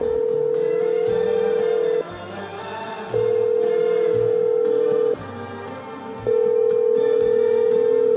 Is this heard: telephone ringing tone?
yes